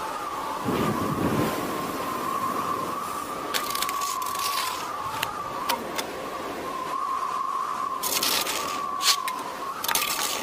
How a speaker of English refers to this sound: Whoa! Why did it get windy all of a sudden?